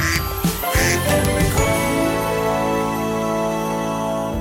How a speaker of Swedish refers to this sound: Det ringer, det ringer!